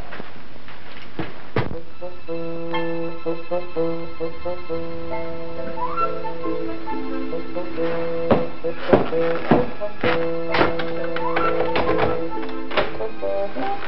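door being opened

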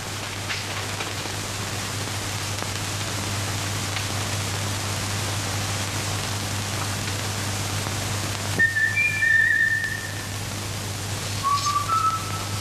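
person whistling

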